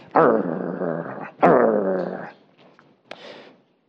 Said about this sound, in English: the really mean, grumpy king of the north who in that video sat on his throne and growled. Do you remember that?